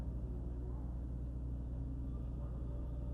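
A heavy garbage truck's engine rumbles steadily as it turns around in a yard, a continuous low, deep drone with no pauses, fairly loud and filling the whole stretch.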